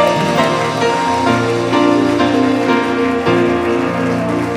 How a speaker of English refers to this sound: Come on, stand together with me and let's give Jesus a hand clap of praise in his house. Come on and praise him.